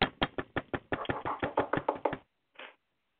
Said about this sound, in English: Knock if you like football.